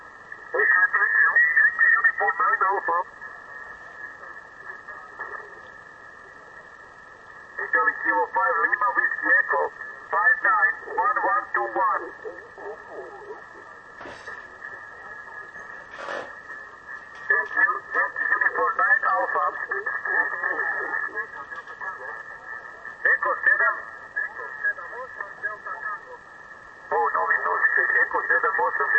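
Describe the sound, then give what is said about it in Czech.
A faint, tinny shortwave radio transmission: garbled voices come and go in bursts, muffled and narrow, while a steady high whistle of interference drones through the whole recording. “Je to nečitelný, on s tím má problémy, ale jemu se tam eliminují ty rušení.”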